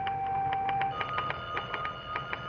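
A telephone bell rings in an office with a rapid, rattling trill of repeated strikes, fairly loud, continuing steadily throughout with no talking.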